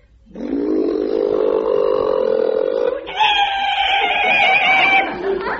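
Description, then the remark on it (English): A car's brakes squeal as it pulls up to a stop by a moonlit lake at night: a loud, sustained whining screech that jumps to a higher, shriller pitch about halfway through, then cuts off after roughly five seconds. “Better get those brakes seen to, love.”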